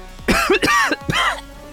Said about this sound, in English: And you wake up with a cough.